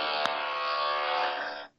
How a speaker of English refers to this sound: You can hear the buzzing sounds.